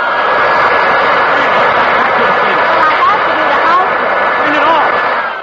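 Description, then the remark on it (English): A vacuum cleaner runs steadily, its loud, even roar paired with a thin, sustained high-pitched whine that holds unchanged for the whole stretch. “Oh, no, darling, not the vacuum cleaner.”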